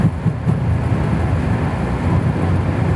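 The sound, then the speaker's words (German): A jet airplane roars on takeoff, a loud, steady low rumble filling the whole stretch without pause, heavy with no voices over it, as the plane rumbles briefly along and its nose gently lifts. “Es rumpelt ein bisschen und dauert auch nicht lange, dann hebt sich die Nase ganz sachte und es ist ganz schön laut.”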